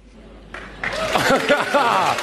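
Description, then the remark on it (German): Audience applause at a political cabaret show by the Erstes Deutsches Zwangsensemble rises in two quick steps into a dense, steady wash of clapping, with voices calling out and laughing over it. “Ja, vielen Dank für den herzlichen und spontanen Applaus.”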